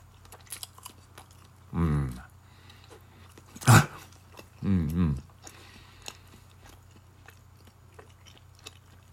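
Quiet chewing of food containing ham and cheese, with faint wet clicks throughout, one sharp bite-like crunch, and a couple of short hummed 'mmm' vocalizations in between.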